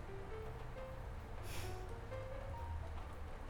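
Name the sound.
rain falling outside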